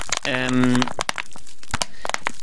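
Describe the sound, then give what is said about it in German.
Plastic PET bottles being crinkled, giving a stream of sharp, irregular crackles and snaps throughout, with a short burst of a person's voice sounding over the noise early on. “Das sind PET-Flaschen. Mit denen zu knistern und zu, können Sie bitte, ich möchte mich hier auf die beeindruckende Kunst von Peter Drümczyk konzentrieren.”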